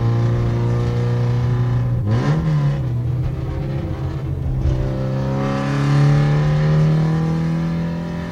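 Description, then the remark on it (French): A car engine hums steadily from inside the vehicle while driving, its pitch dipping briefly at a gear change and then climbing as it revs harder, held to 6000 rpm because the car is cold. No one speaks. “Pour le moment, on va tirer que 6000 tours parce que la voiture est froide.”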